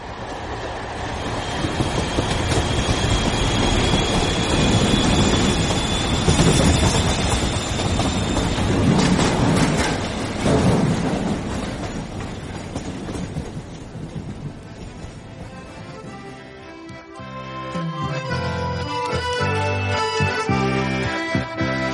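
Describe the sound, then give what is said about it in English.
A train runs steadily along the rails, on schedule, with a loud, continuous rumble and rhythmic clatter of wheels for the whole stretch, no voices. “And for those who care about such matters, the train is running exactly to schedule.”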